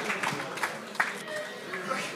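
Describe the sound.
Applause from an audience: a dense patter of clapping with a few sharper claps standing out, mixed with crowd murmur and voices, holding at a steady moderate level throughout.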